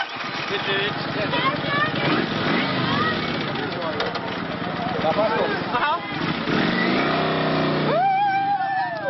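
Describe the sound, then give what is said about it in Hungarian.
Big motorcycle engines of motorcycle club members rumble and rev, then roar as the bikes pull away with young passengers riding behind the club members, with people's voices mixed into the steady, loud engine noise. “A fiatalok még a pénznél is jobban örültek annak, hogy a klubtagok mögé felülhettek a hatalmas motorok nyergébe, és élvezhették a lóerőket.”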